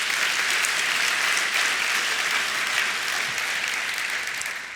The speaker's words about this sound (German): Applaus für die Übersetzer will ich auf keinen Fall unterbinden.